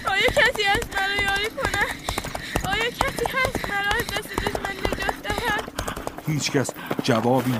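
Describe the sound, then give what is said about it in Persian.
Rapid, steady hoofbeats of a galloping horse whose spear-carrying rider chases Fatimah, daughter of Imam Husayn, as she flees; beneath them a woman's high, distressed voice, Fatimah's, calls out, with a brief moment of strained sound near the end. “اسب سواری به دنبال فاطمه دختر امام حسین است.”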